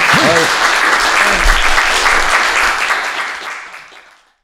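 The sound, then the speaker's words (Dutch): Dense, steady applause from a crowd for a team, a loud continuous wash of clapping with a few brief voices early on, holding strong before fading out over the last second. “Sterker nog, daar wil ik graag een applaus voor.”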